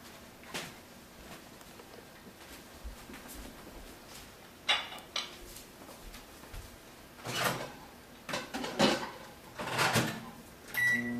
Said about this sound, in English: Okay, now we're gonna go ahead and put it in our microwave.